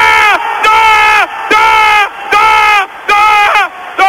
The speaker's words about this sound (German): Jetzt kann Sarah sich noch einen aussichtslos scheinenden Ball reinholen. Es gibt Beifall für ihn, da kommt Kranke.